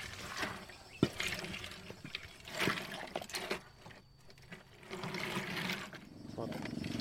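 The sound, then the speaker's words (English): Water from the Namur River rushes and splashes steadily along a channel that ethnic Kamul women are clearing near their village, with a few sharper sloshes and knocks. Indistinct voices murmur underneath. “They are clearing a channel so that the water can go through from the river.”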